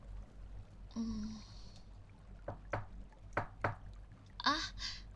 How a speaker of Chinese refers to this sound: 是有人敲门吗？